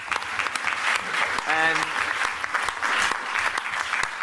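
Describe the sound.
Steady applause from an audience welcoming a speaker, a dense crackle of many hands clapping throughout, with a brief voiced sound or whoop rising out of it near the middle.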